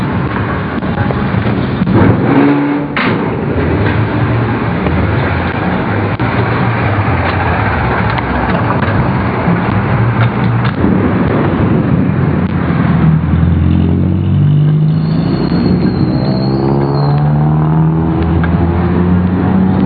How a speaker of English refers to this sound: Traffic is an absolutely defining reality of life in Manila. Over time, actually, you learn not to make plans or plan to do anything without taking traffic into account. It's generally the biggest factor of anything you do.